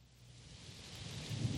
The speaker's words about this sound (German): Das sind einfach Regengeräusche, das ist mein Charme.